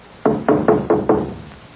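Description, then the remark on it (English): Four firm knocks on the wooden door of a caretaker's cottage in a steady, even rhythm, clear, each with a short resonant decay, followed by quiet. “he came upon the caretaker's cottage. After just a moment of hesitation, Harry knocked.”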